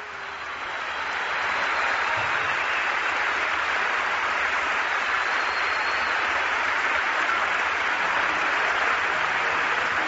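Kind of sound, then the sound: crowd, crowd ovation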